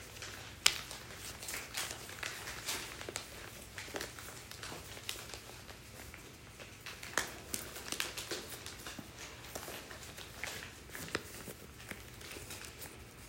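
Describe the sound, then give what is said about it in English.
A sheet of paper rustles and crinkles as it is folded in half, with brief sharp rips scattered irregularly throughout as its corners are torn off; the sounds are soft and overlapping, with no one speaking. “Fold it in half again, and tear off the lower right-hand corner.”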